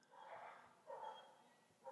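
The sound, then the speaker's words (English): Dogs bark outdoors, giving a few muffled, drawn-out barks that rise and fade in faint bursts. No one speaks. “You hear those fucking dogs out there.”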